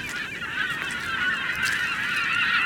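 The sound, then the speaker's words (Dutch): A dense chorus of honking geese and other birds calls continuously across open mudflats at the northernmost tip of the Netherlands, a steady, overlapping din with no voices present. “Op het noordelijkste puntje van Nederland zie je zand, pruttelende modder, wat verlaten arbeidershuisjes en vogels. Vooral veel vogels.”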